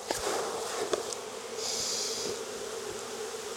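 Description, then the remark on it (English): A steady, dense hum of many honeybees buzzing around an open hive as a beekeeper gathers bees for mini mating nucs, with occasional soft clicks and thuds beneath the continuous drone. “All these foragers that aren't nurse bees are gonna fly away, which is exactly what I want.”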